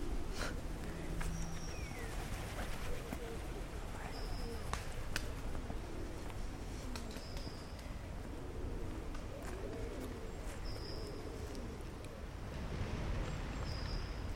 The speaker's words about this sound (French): Voilà, il y a pas mal de pigeons. C'est pas le matériel non plus pour enregistrer le bruissement d'ailes.